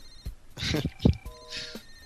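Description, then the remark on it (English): A telephone rings with a short burst of steady electronic tones, moderately loud, from a caller who has been calling nonstop, mixed with brief murmuring voices and background noise. “that guy's been calling nonstop, like, during that entire conversation”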